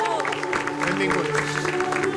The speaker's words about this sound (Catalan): Benvinguts a tots i un fort aplaudiment.